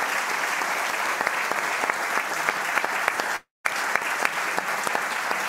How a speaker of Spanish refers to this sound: Oye, muy entretenido, pero ya estamos en el tiempo, así es que un tremendo aplauso para Pepe Aut, Jaime Belolio.